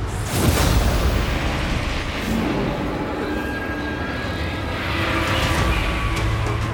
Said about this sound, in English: He heard an explosion.